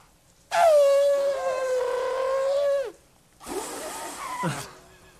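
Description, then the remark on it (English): A person imitates an elephant's trumpet with a loud, sustained, brassy wail lasting a couple of seconds, then follows with a shorter, rougher, breathy blast. “That's the elephant trumpet.”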